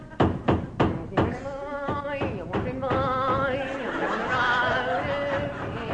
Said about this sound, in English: Now, where's me hammer? I'll start banging the pegs in.